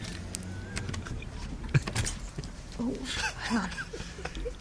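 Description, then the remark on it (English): A house door is opened with keys: a jangle of keys, sharp latch clicks and a clunk, with a muffled voice murmuring briefly over a steady background rumble. “Okay, hang on, I'm just going to open the door.”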